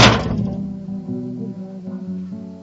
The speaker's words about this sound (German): Eine Ohrfeige.